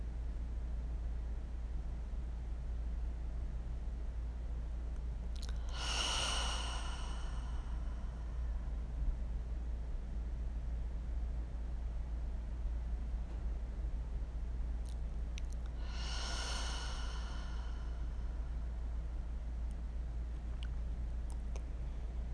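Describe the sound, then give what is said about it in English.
Two slow, deep cleansing breaths about ten seconds apart, each drawn in through the nose and ending in a long, airy sigh out through the mouth, over a steady low background hum with no talking. “Begin with your three big cleansing inhales and exhales, in through the nose.”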